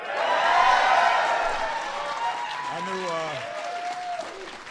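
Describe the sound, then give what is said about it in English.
Audience applause from a sizable crowd, clapping at a mention of the Seattle Seahawks beating the rival 49ers: dense, steady clapping, loudest at the start and gradually easing, with a few cheers mixed in as a voice begins speaking over it near the end. “I knew you guys would clap on that one.”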